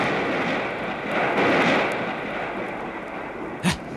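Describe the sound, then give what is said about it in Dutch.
A steady, roaring rumble of thunder during a storm swells in the middle and fades, then a sudden sharp crack bursts out near the end. No one speaks. “Hoor toch eens wat een storm. Hoor toch eens wat een onweer.”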